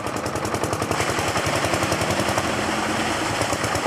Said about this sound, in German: Wenn die Bauern im Dorf Baharmis ihre Pumpe anwerfen, sprudelt es reichlich.